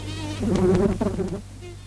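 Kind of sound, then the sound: insect, mosquitoes buzzing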